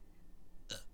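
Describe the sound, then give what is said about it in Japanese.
A single short, small burp near the end, fairly quiet, following a moment of near silence with no talking. “なんかね、ほんと最近ゲップの音も大きくなってきてて、やばいよね。”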